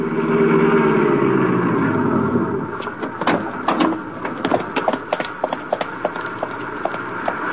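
A car engine hums and shifts pitch as it drives out to an arena for a couple of seconds, then fades into a run of sharp clicks and clattering knocks, with no one speaking.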